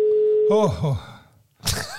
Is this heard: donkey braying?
no